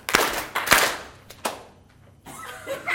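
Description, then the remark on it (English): A singing-school group, asked to clap 2.5 claps, claps together three times in a loose, slightly ragged rhythm. The third clap is softer and shorter, followed by scattered murmuring and light laughter from the crowd. “Yourselves 2.5 claps. Ready?”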